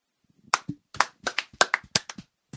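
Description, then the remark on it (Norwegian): Hands clap right up against the microphone, about a dozen sharp, loud claps in an uneven, quick rhythm with brief gaps between them. No one speaks. “Ikke klapp inn i mikrofonen.”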